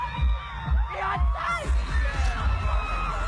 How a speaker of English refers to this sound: Okay, so that's him in a stadium shouting